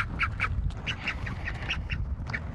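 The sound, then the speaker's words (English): A bald eagle at its nest gives a rapid series of short, harsh, nasal, pig-like grunts, about a dozen in quick succession, steady and fairly loud over a low rumbling background, with no one talking. “It's more of a grunt like a pig when you go up into the nest and they're a little bit scared of you or concerned.”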